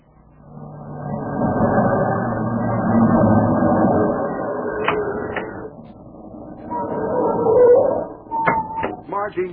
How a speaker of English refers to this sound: Margie, where are you going? Abel, she's driving off in Simon's car.